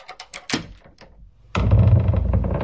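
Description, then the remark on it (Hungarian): A series of sharp metallic clicks and clunks from a lock, then a heavy iron-bound oak door swings open with a loud, sustained creaking groan and low rumble, with no voices. “Csikordult a zár, kitárult a vasalt tölgyfa ajtó.”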